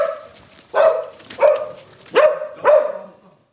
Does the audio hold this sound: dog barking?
yes